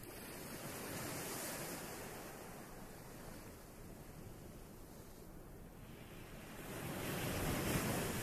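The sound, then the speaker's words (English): Gentle ocean waves wash onto the shore in a steady, continuous roar, swelling softly near the end, with a light breeze blowing and no voices present. “The sound of the gentle waves has radiated down to your arms and shoulders, loosening them, making them very limp.”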